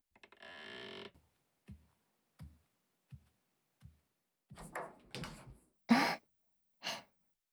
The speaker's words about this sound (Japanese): 早くドア閉めて。